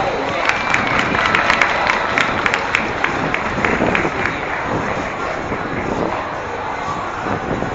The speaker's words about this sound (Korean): 오늘 참석하신 분 중에서 민주노동당 정부위원으로 계시는 이수호 위원님께서 나오셨습니다. 힘찬 박수로 모시겠습니다.